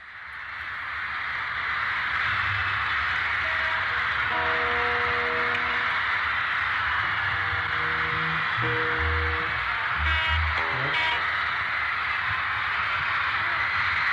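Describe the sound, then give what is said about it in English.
Screaming fans at a concert form a loud, unbroken high-pitched roar for about fourteen seconds, with faint snatches of band music barely poking through the din. “Sounds like a plane coming in”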